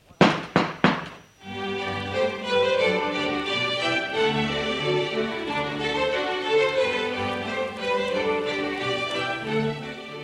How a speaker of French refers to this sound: C'est avec le heurtoir de sa porte que nous allons frapper les trois coups.